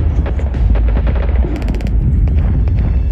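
Explosions behind a mountain rumble and crack in rapid succession, a dense barrage of gunfire-like blasts over a deep, continuous low roar, with a quick volley of sharper bangs partway through.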